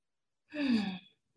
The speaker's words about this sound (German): Nehmt doch mal ein paar Atemzüge. Lasst uns mal ein paar Atemzüge gemeinsam tun.